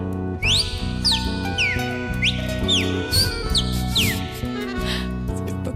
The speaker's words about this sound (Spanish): Canta el cardenal.